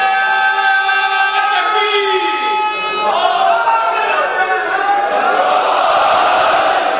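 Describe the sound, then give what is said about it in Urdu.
A crowd of many voices loudly shouting a slogan together, the chant ragged and overlapping rather than in tight unison, sustained for several seconds with rising, drawn-out calls. “دیکھیے میں نے نعرہ نہیں مانگا تھا, مگر لگانا ہے تو پھر نعرے کی طرح لگاؤ تو مزہ آئے گا.”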